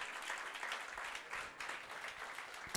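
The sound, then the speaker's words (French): An audience applauds steadily for visitors from Equatorial Guinea, a dense wash of many hands clapping at once, fairly loud and sustained with no one speaking over it. “Guinée équatoriale. On applaudit.”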